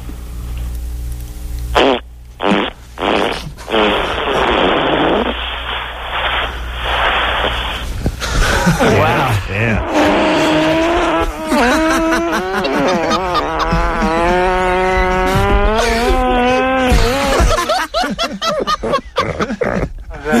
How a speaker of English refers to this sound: Like a bunch of farts, dude. Yeah, I give it a 4. Wow, that was huge. Huge.